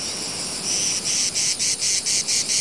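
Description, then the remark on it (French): A male cicada sings loudly, a harsh high buzz that starts steady and then breaks into regular pulsing bursts, with no voices. “J'avais oublié que la cigale était l'insecte le plus bruyant du monde.”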